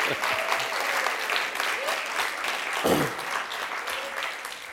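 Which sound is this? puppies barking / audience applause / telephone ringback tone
audience applause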